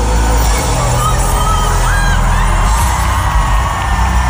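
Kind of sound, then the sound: crowd, concert crowd screaming loudly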